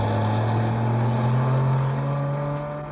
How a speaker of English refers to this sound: look, there's a police car coming along the road. Yes, it's not going very fast, is it? Well, that's not surprising. It's being pushed.